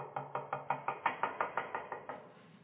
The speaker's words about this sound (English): we waited and waited because they have a newborn. Knocked again.